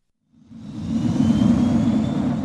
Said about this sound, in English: The morning flight from Nairobi banks over the Indian Ocean and descends towards a runway next to the beach.